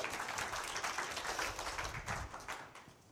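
An audience claps steadily for about three seconds, a dense crackle of many hands with no voices, easing off slightly toward the end.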